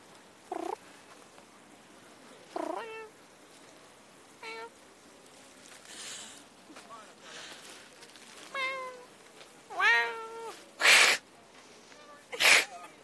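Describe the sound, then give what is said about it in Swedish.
A person imitates a cat, taking up a challenge, with a string of meows, some short and some drawn out with wavering pitch, ending in two sharp hissing bursts, all fairly loud. “Jag visste inte att du var så här bra på fake jama.”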